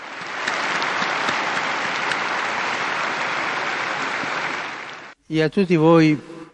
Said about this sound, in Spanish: Su ejemplo que nos ayude a cuidar de aquellos que sufren en el cuerpo y en el espíritu. Un aplauso para el nuevo Beato.